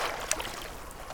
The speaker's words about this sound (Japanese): こえますでしょうか、この波の音